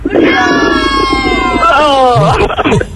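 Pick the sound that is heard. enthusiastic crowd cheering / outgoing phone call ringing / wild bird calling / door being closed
enthusiastic crowd cheering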